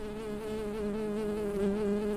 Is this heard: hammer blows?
no